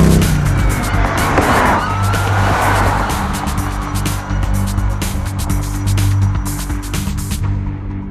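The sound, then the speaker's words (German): Loud, continuous engine roar of a high-speed chase as two men flee police on a motorcycle from a parking lot, with sharp tire squeals and skids sweeping through the noise. No voices, just intense motor and road sounds throughout. “Sie steigen auf ihr Motorrad und es beginnt eine wilde Verfolgungsjagd.”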